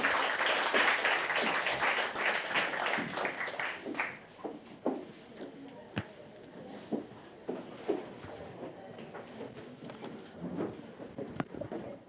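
An audience breaks into applause, a dense burst of many hands clapping for a few seconds that thins out into scattered, individual claps before trailing away.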